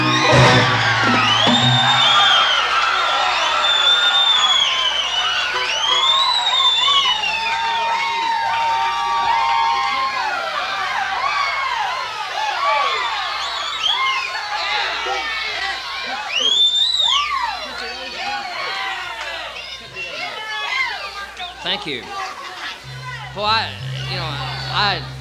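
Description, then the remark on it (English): A crowd cheers loudly after a live song, with sustained whoops, high yells and shouts layered over dense applause-like roar that stays strong for the whole stretch before tapering slightly. “I didn't think y'all liked 9-pound hammer that good.”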